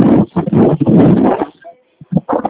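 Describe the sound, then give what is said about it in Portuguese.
Wind at a beach buffets the microphone during a phone call in loud, rough rumbling gusts that drop out briefly to near silence, then surge back in short bursts. “É que tá ventando bastante.”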